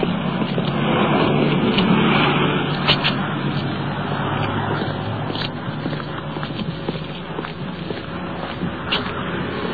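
A car pulls in behind a row of parked cars and parks, its steady engine and road rumble gradually easing as it slows, with a few faint knocks and clicks near the end.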